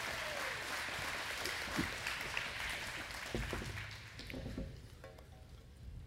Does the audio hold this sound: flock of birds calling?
no